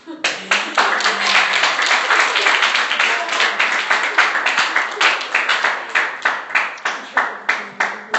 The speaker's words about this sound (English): And before I forget, big round of applause.